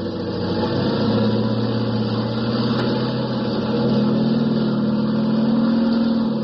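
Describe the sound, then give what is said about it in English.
A loud, steady aircraft engine in cold weather in Korea, with nine people aboard, drones and revs up, its low hum climbing slightly in pitch partway through and holding strong to the end, with no voices. “The 9 of you are aboard, and Joe revs her up.”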